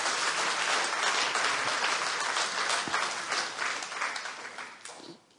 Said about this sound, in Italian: Wow, c'è un applauso a Gesù.